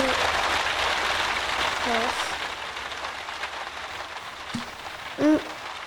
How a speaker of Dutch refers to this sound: Het is lekker weer, het regent erg hard.